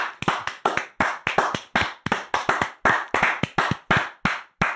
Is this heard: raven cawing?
no